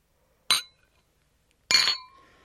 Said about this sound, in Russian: Третий звон стакана раздается